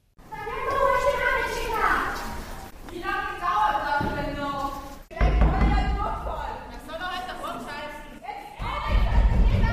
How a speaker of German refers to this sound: Den ersten in der Schlange wird es zu blöd. Sie beginnen, an die Tür zu hämmern.